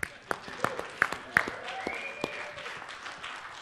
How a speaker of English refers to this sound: So we have announced today, actually this morning, we have announced Harmony, the only combined Windows or SharePoint and Yammer app, is now available on the Windows 8 phones. So thank you for the applause.